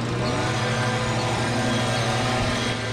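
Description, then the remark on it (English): On a sunny weekday morning, two city workers' leaf blowers push litter down a narrow block in North Philadelphia toward a waiting 9-foot mechanical street sweeper truck, all running together in a steady, loud motorized drone with a low engine hum and a broad whooshing hiss, unbroken for the whole stretch. “a pair of city workers use leaf blowers to shepherd plastic bags, candy wrappers, and other trash down a narrow block in North Philly.”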